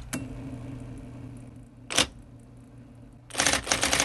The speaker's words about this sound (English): Is there an aesthetic to be appreciated with that kind of whir and click of that IBM Selectric? Well, the sound of typewriters, I think, is aesthetically interesting.